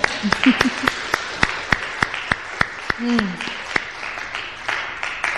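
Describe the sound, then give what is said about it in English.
Sparse, steady clapping from a small audience at a worship service, applauding a choir, sharp claps landing in an even rhythm for several seconds, with a few brief murmured voices underneath. “I want us to give that choir another round of applause.”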